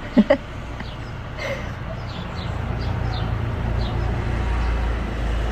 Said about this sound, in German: Okay, nächster Traktor.